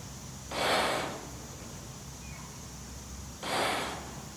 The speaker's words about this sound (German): Es war tatsächlich nur zweimal das gleiche Geräusch. Es klingt wie Atmen.